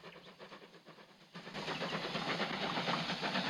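A steam train chugs along the rails through sunny countryside with a steady, rhythmic puffing over a broad mechanical rumble, growing noticeably louder partway through. No voices are heard.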